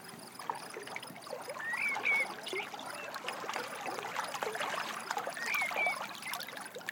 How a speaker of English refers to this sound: The water is gently lapping.